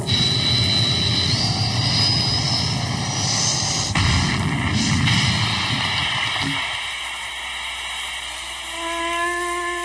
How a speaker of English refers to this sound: It was nearing time to land. We swung the ship around backwards so that when the jets were fired, they would act like brakes. Stand by for crash landing!